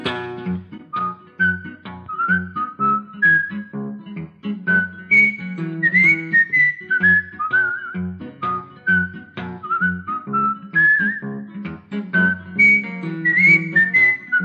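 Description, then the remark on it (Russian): A clear whistled melody, with short phrases and rising and falling notes, carried steadily over a rhythmic musical accompaniment. No one speaks. “Сейчас должен свист продолжаться.”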